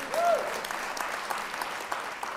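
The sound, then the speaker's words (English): An audience claps in a steady burst of applause, dense and moderately loud, with a brief tonal voice fragment near the start before the clapping carries on evenly. “Yeah, that we could clap.”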